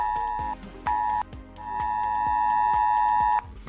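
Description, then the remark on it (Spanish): An ES-Alert emergency mobile phone alert tone, received on residents' phones in Zuera during a chemical accident drill: a loud, piercing steady beep that sounds in two short bursts and then one long sustained blast, with a rhythmic buzzing pulse running underneath. “Los vecinos de Zuera han recibido esta mañana un mensaje en sus móviles que ha venido acompañado de este sonido.”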